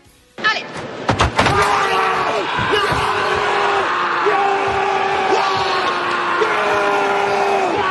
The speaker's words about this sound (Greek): Εδώ δεν πανηγυρίζει, ουρλιάζει για το διαιτητή, ο οποίος μόλις έχει συνειδητοποιήσει ότι έχει δώσει την νίκη στον Αιγύπτιο. Και μετά αρχίζει και τον κυνηγάει.